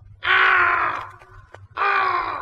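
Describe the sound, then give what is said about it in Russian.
A black raven sitting on a branch caws twice, loud, each call a harsh, drawn-out rasp lasting most of a second with a short pause between them, over a faint low background rumble. “Ну, конечно, кроме черного ворона, который сидит на ветке, все видит и все слышит.”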